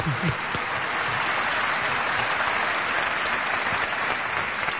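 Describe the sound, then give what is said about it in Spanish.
Sustained audience applause for Albert Camus, a dense wash of many hands clapping at a steady, fairly loud level for several seconds with no clear pauses. “Hay que aplaudir a Albert Camus, por favor.”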